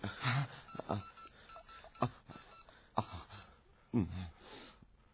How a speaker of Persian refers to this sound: زنگ زدم به گوشی.